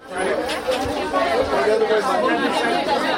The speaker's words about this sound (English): On a warm summer day, a crowd gathers outside the Eglise du Nazarene Church in Miami. People jerk in line as volunteers hand out food parcels.